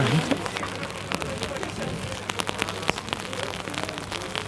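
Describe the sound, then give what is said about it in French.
Steady raindrops patter on an umbrella at a market on a rainy day, a dense crackle of irregular taps with a few sharper, louder drops standing out over a constant wet hiss. “C'est plutôt des gouttes de pluie qui tombent sur mon parapluie.”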